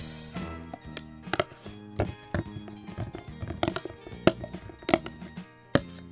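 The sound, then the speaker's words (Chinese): Irregular clacks and soft thunks as freshly cut, washed vegetables are tossed and lightly mixed in a pot with chopsticks, a steady tonal hum beneath and a few sharper knocks standing out. “像我这个是已经刚刚穿烫好的那它的做法就是把这些我们所谓的材料就把它混合在一起像我现在呢我就把这个我刚刚切好的清洗干净的我们所有的这些菜呢就放在这个锅子里面，然后用筷子呢把它稍微拌一下。”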